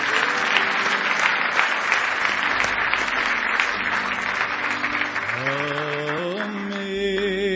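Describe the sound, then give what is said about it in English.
An audience claps loudly in praise of Jesus in a dense, sustained burst of applause that fades slightly, while a sung or organ-like tone rises and glides upward near the end. “Give Jesus one more hand clap of praise if you love him tonight.”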